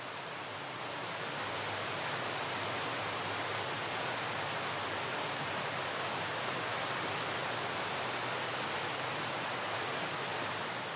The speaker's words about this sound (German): Spüre, wie mit jeder Einatmung der Wasserfall dir neue Energie schenkt.